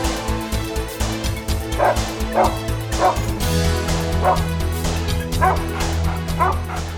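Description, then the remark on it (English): A dog, Patrasche, lies down and cries, whimpering and letting out short, yelping barks in a steady series of cries, with a sustained musical drone playing underneath throughout. “He just lay down and cried.”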